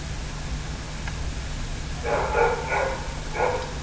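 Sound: dog barking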